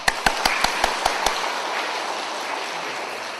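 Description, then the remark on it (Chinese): An audience applauds: several loud, evenly spaced sharp claps ring out first, then blend into a dense, steady wash of crowd clapping that carries on without any talking. “好，大家嘅掌声好似炮掌声咁样，就好似咩炮掌声呢？”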